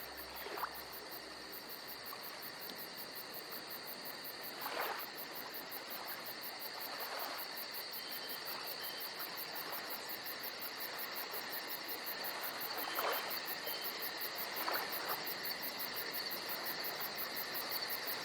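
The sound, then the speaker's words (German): Crickets chirp softly and steadily by a lake at dusk, a continuous high trill under a quiet hiss, with a few faint swells of noise passing now and then. No one speaks. “Und nur ganz leise im Hintergrund beginnen sanft die Grillen zu zirpen.”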